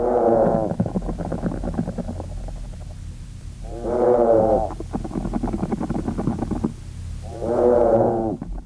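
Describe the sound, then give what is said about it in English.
Field recording of a group of treehoppers' vibrational signals: three drawn-out, low, harmonic moo-like calls spaced a few seconds apart, with a rough, pulsing buzz continuing between them. No one speaks. “This is, again, the tree hoppers, and they're not at all what we maybe typically presume insects are supposed to sound like.”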